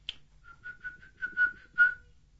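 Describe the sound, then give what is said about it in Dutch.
A child, asked what the little bird does, whistles a quick run of short, steady, high-pitched chirps imitating a little bird, about eight notes that grow louder toward the end, with a sharp click at the start. “Wat doet het vogeltje, zei?”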